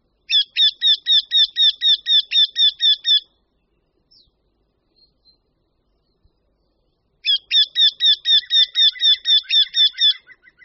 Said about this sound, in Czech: Krutihlav obecný. Tento intenzivní hlas, který zní jako naříkavé volání, patří krutihlavu obecnému, ptáku, kterého v přírodě nepřeslechneme, ale spatřit jej již stojí trochu námahy.